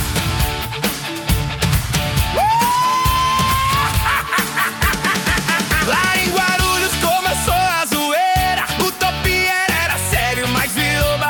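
A man yells loudly in long, strained, wavering notes over a dense, blaring rock band with pounding drums and distorted guitar, all close and loud throughout.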